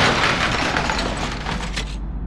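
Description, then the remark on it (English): A loud crash of a car windshield shattering as a frog bangs on it, a dense burst of breaking and crunching noise that lasts about two seconds before cutting off sharply, with no voices. “It banged on the windshield until it shattered, the glass blinding me as we spun out, crashing into a tree.”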